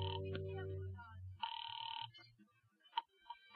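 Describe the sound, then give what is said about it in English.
A low humming tone gives way to a single steady telephone ring heard down the line as someone calls an old number, followed by a few faint clicks and short bleeps on the connection. “And then I got the phone and called Fran's old number”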